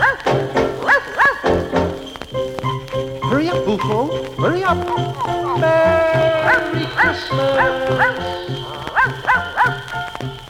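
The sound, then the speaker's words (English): Short, yappy barks of Boofo, Santa's dog in a Christmas song, repeat over a bouncy, jingly musical backing, fairly loud, with the barks falling roughly in time with the tune. “On Christmas Eve when all is dark, children hear Boofo bark.”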